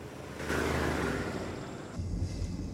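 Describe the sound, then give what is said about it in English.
A steady, muffled rumble of a car's interior while driving, with broad road and wind noise that swells briefly and a deeper engine drone near the end; no one speaks. “In another car, Brody and Jessica are in the back seat.”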